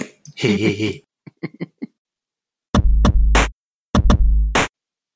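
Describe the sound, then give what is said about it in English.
A voice mimics farting like Abe in the game Abe's Odyssey: a short sputtering burst and a few quick lip pops, then two loud, drawn-out blown raspberries, each lasting under a second, with no other speech. “Just think of like Abe's Odyssey, where you can get him to fart, and he goes.”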